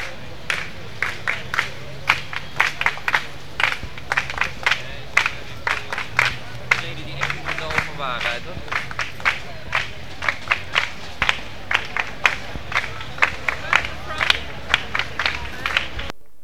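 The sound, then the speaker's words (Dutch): Busy outdoor crowd noise on the Ramblas, a busy pedestrian boulevard, with a steady wash of overlapping chatter, constant footsteps and scattered sharp clicks or claps, heard from within the throng as people pass by. “Nou, we lopen nog steeds op de Ramblas.”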